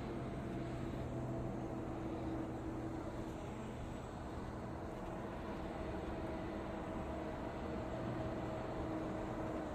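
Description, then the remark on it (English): A tram pulling in at a stop, its motor giving a steady rumble with faint whining electrical tones running throughout, no voices present. “tram stops here, I'm going to try and grab them.”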